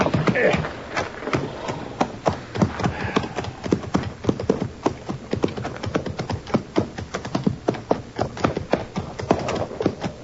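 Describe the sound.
Steady clip-clopping of horses' hooves, a brisk, continuous run of sharp knocks, with several animals' steps overlapping, no one driving them, and voices faintly mixed in underneath.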